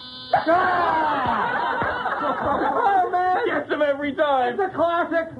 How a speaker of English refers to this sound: It sounded like canned laughter. We have a laugh track in the office. We run all our material past it to check the timing.